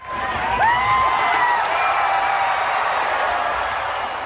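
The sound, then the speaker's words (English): A grandstand crowd cheers for the DRC-HUBO robot at a competition pitting 23 robots against one another, in a dense, steady roar that swells early and holds, with a few shrill whistles rising above the noise and no clear speech. “That cheer wasn't for Hope Solo during a Women's World Cup match.”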